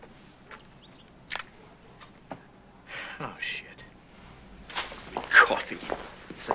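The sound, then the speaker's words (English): Footsteps of several people strolling down a corridor, sharp scuffs and taps on a hard floor arriving at an uneven pace, growing busier and louder toward the end as several feet seem to move together. “Bender, followed by the others, strolls down a corridor”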